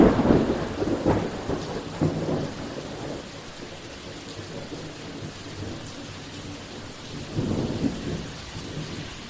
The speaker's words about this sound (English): While they were at sea, a huge storm blew up.